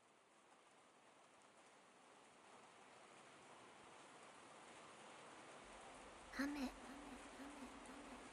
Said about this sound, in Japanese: 雨が降る。体をきれいにする。水のしずく。君の体がきれいになっていく。私の香りと私の雨で君の体がきれいになっていく。